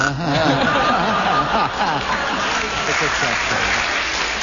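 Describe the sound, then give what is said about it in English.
A studio audience applauds steadily for several seconds, a dense, even wash of clapping with some laughter and murmuring voices mixed in. “You always enjoy it so much when you make mistakes, they clap every one of them.”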